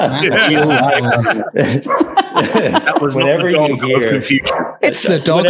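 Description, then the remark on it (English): A dog barks loudly and repeatedly, a rapid run of sharp yaps and woofs, with voices tangled up in the noise. “Whenever you hear a sketchy reference to child labor, the dog starts barking.”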